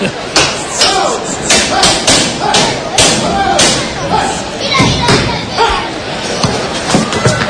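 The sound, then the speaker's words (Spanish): A heavy bolt slamming on the toriles (bull pen) gate of a bullring, with a microphone half a metre from the gate, a rapid series of loud metallic bangs and thuds clattering continuously, while muffled voices murmur underneath. “Estás a medio metro de la puerta de toriles. Con los... Aquí a Puerta Gallola. El sonido impresionante, ¿eh? Cerrojazo.”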